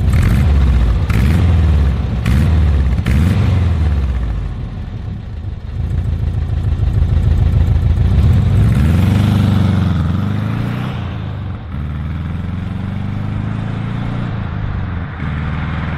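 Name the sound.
car engine running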